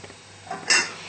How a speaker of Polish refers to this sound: I od zagotowania około 10 minut gotujemy ryż. Musimy czasami zamieszać, żeby nie przywarł do dna garnuszka.